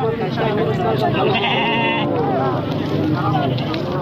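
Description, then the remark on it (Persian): Several sheep bleat in overlapping, wavering cries at the Ganj Bazaar livestock market on the outskirts of the city of Firozkoh, where herders bring sheep, goats and cattle for sale, amid a busy, crowded background, with people talking nearby throughout. “ده ها مالدار چارپایانشان مانند بز، گوسفند و گاو را عمدتاً به علت خوش‌سالی برای فروش به گنج بازار در حومه شهر فریزکو آوردند.”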